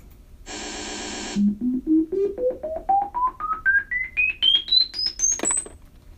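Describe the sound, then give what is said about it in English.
Hearing test beeps: a loud buzzy tone sounds briefly, then a series of about sixteen short beeps rises steadily in pitch from low to very high. “Okay, now you're going to hear some loud beeps.”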